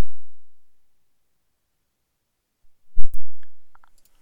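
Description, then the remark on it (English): After a long near-silence, a quick cluster of sharp keyboard key clicks sounds as a keyboard shortcut is pressed, followed by a few fainter ticks as the keys are released. “Mix didn't like my keyboard shortcut, so sorry about that.”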